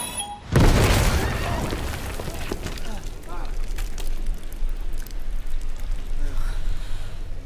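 The first of ten cans explodes with a sudden loud boom about half a second in, followed by a long rumbling, crackling tail of noise that lingers to the end.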